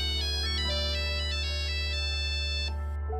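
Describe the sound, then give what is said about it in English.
A classic mobile phone ringtone, from a phone model that sold 126 million units, plays a bright, beeping synthesized melody of stepped tones, loud, running steadily for a few seconds before cutting off abruptly. “With 126 million copies sold, it's 13th in the list of top-selling mobile phones of all time.”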